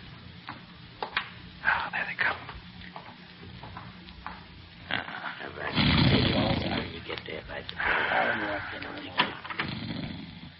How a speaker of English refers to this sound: He's asleep, all right. I can hear him snoring. Well, with the slug I put in his beard, he'd have to be either sleeping or dead.